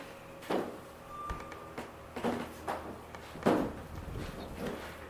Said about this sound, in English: Can we crack that door or put a sign propping it? Because it's really going to get hot in here.